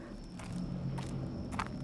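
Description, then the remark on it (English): Footsteps walking at an even pace to the back of a malfunctioning refrigerated trailer full of produce, about three dull thuds roughly half a second apart, over a steady low hum and a faint high whine. No one speaks. “I'm walking to the back.”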